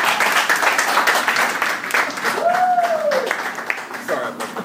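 A crowd applauds steadily and loudly for several seconds, the dense clapping joined by cheering and a single rising-and-falling whistle partway through.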